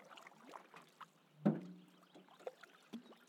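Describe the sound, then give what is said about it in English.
Paddle strokes of a Canadian canoe, including C strokes on the left side of the boat, dip and pull through water at a steady rhythm, with one louder splash midway and gentle dripping and swirling between the strokes, with no talking. “So when you do the C stroke at the left side of the boat, the Canadian tends to the left.”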